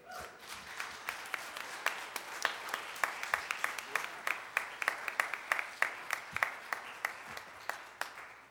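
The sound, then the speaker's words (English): A church audience claps hands together in a steady rhythm during a sermon, sharp beats standing out over a dense, continuous wash of clapping for several seconds, with faint voices underneath. “Clap your hands, everybody.”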